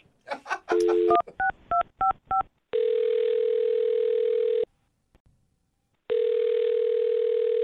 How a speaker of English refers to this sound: Okay, I'm going to dial his phone number right now and see if we can get him on the phone. Here we go.